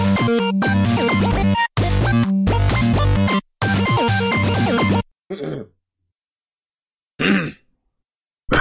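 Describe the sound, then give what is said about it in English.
Loud, rasping throat clearing and coughing fill the first few seconds in rough bursts, followed after a pause by two short, separate coughs. No one speaks. “If it's not giggling or heavy breathing, it's coughing.”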